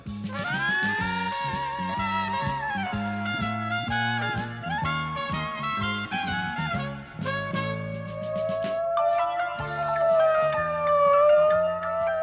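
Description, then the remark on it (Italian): A police siren wails loudly and continuously, its pitch sweeping up and down, layered over a dense, rhythmic, music-like backdrop with no talking. “La polizia! Scappiamo! Siamo circondati!”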